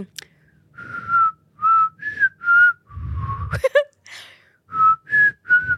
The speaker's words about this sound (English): I can't really whistle. Let me try.